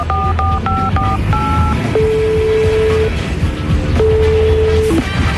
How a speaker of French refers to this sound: Bon, allez. Je téléphone.